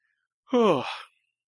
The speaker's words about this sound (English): Good yawn. Yeah, exactly. It's getting a little late, you guys.